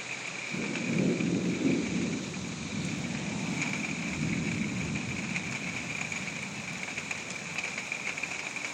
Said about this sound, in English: I'm still standing on my front porch, and I wanted to get a little bit more of this storm because it's finally starting to kick in a little bit.